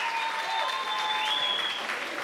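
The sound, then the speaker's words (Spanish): Steady audience applause for Plátano Melón fills the whole moment, dense and even in loudness, with a few faint whistle-like tones riding over the clapping. “Papi, un aplausito para Plátano Melón.”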